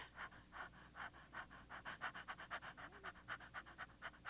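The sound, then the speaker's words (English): Quick, light panting breaths repeat in a steady rhythm, roughly three per second, fairly soft, with no talking; a woman's labour breathing technique for the end of the first stage of labour. “And you fly over with letting your breathing get quicker and lighter.”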